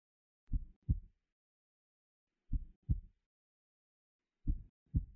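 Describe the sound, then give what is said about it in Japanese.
A slow heartbeat in a person's chest thumps three times in low, muffled lub-dub pairs, each double beat separated by a quiet pause of about two seconds, soft with no voices. “聞こえますか、私の胸の鼓動が、心臓の音が。”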